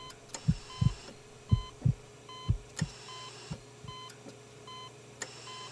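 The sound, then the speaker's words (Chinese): A patient's steadying heartbeat on a patient monitor: soft lub-dub thumps at a calm, even pace, mixed with short repeating electronic beeps over a faint constant hum, no voices. “医生，病人的心跳逐渐平稳，血压降低，意识逐渐清醒中。”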